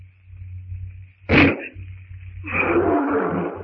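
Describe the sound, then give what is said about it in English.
A lion, shot in the throat, lets out a ragged, rumbling roar lasting over a second, following a single sharp, loud burst, over a steady background hum and whine. “There, that finishes the liar.”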